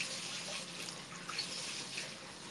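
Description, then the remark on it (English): Cold water sloshes and splashes steadily as it is stirred with a ladle-like mixer, a continuous wash of liquid sound with small bright spurts, and no voices. “You like the water sounds? That's good. I've been mixing water.”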